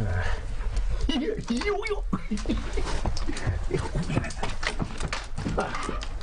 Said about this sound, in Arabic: أنا أصدق أن هذا حصان. ها، أين حصاني؟